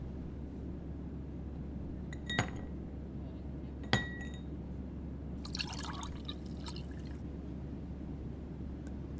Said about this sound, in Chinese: 冰块给您加好了，请您慢用。